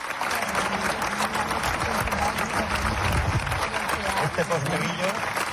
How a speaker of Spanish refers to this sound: Y el pasado sábado, en el Teatro Romano de Mérida, ovación para Posteguillo.